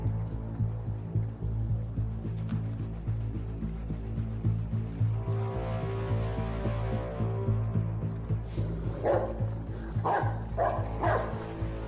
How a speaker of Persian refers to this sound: خدای من، اون سگه یا گودزیلا؟